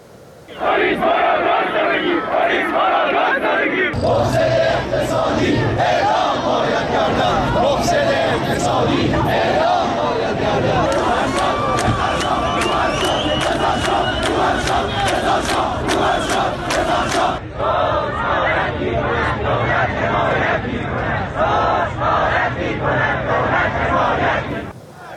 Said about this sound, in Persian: در تجمع معترضان مشهدی در روز پنجشنبه شعارهایی همچون مرگ بر دیکتاتور، مرگ بر روحانی و رضا شاه روحت شاد سر داده شد.